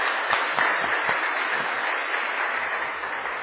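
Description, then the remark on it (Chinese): A church audience applauds steadily throughout a Sunday Father's Day service, a dense wash of many hands clapping at once, moderately loud and sustained without pause or voices, thanking the youth department for its choir singing and drama performance. “啊，真感谢咱教会啊青少年部会做同工做伙联合的献诗，以及少年团体演出真水真精彩啊的戏剧，予咱的心得到真大的感动，真好的提醒，咱一个掌声给因感谢吼，给因鼓励。”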